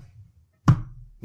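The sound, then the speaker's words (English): A single dull knock, coming from a bedroom of a house, sounds once with a solid low thud and a short fading tail, standing alone against near silence. “And the host says, if there's anybody out there, knock once to let us know.”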